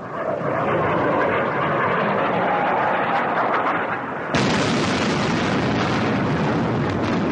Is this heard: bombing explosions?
yes